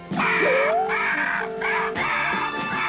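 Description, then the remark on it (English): A large mother bird screeches loudly, two long, harsh, wavering squawks that run almost back to back, with no voices. “It's a mama bird again.”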